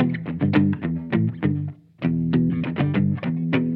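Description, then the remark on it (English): A dark, mellow electric guitar played on the neck pickup with the tone controls turned down, with soft highs and light overdrive, plays a quick run of picked notes and chords, pausing briefly halfway before continuing. Clear, with no voices. “Okay, if I turn down my tones and go to the neck so we can get the most neckular sound.”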